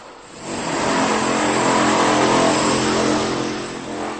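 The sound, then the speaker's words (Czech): Loud construction noise next to a building site: a machine engine roars steadily, swelling after the first half second and easing slightly toward the end, with no one speaking. “Pokud mě zrovna neslyšíte, je to kvůli hluku. Takhle může totiž vypadat život vedle stavby.”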